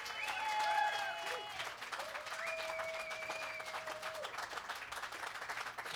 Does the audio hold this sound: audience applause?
yes